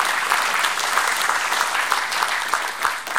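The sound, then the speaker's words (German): An audience claps steadily after a talk, a dense, even wash of many hands with small sharp peaks, sustained at a fairly loud level throughout with no voices on top. “Ja, dann bedanken wir uns auf jeden Fall erstmal herzlich bei dir mit Applaus für diesen Vortrag.”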